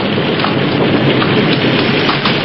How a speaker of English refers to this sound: It led them to Phillipsburg, but just as the lights of the town came into view, lightning flared across the sky, thunder crashed, and a torrential wind-driven rain lashed against them.